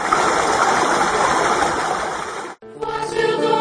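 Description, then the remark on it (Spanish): A steady rush of flowing stream water fills the first two and a half seconds, then cuts off abruptly and gives way to a brighter, tonal musical sound. “Vamos a escuchar el agua y a dejar que viva la torta, hombre.”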